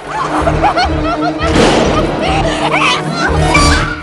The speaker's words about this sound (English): One of the men pops up and stares at her, his face covered by a stocking mask. The man leers at her, then smashes a crowbar into the passenger window.